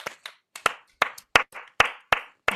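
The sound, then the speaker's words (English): Polite, measured hand clapping, about eight crisp claps at a steady, unhurried pace, moderately loud with short gaps between them and no voices. “We need to perfect our sort of Oscar nominees that don't actually win the Oscar clap, because the camera is on you and you're kind of like...”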